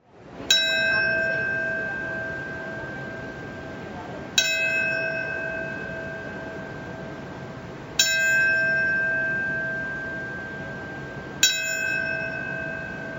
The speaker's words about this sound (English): Bells rang at the same time of each of the four plane crashes at 8:46, 9:03, 9:37, and 10:03 a.m., followed by a moment of silence.